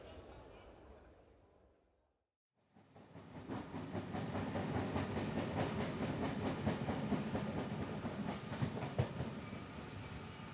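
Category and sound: vehicle, train arriving on rails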